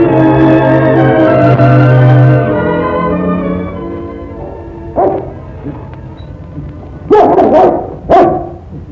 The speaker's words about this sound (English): Bark at me, dog. No call at all.